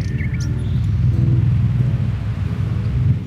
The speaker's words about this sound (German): Das ist mein Ventilator. Der leistet im Moment Schwerstarbeit. Läuft eigentlich von morgens bis abends.